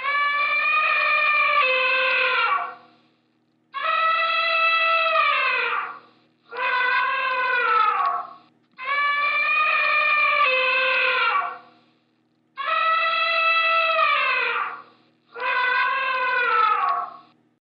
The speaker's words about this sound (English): Have you guessed it yet? It's the African elephant, one of the big five animals sought after on photographic safaris. Now, listen to the trumpeting of the African elephant.